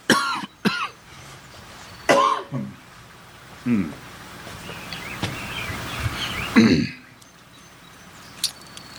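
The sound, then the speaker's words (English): Several harsh coughs and throat-clearing bursts come from a preacher during a sermon at Olmsted Baptist Church. They arrive in uneven bursts, fairly loud, with quiet pauses and faint background noise between them. “I'm going to throw another cough drop in there.”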